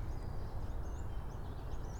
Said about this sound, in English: Very bird chirpy today. Lots of bird action, but I'm not hearing any bird anger or fear or umbrage of any kind.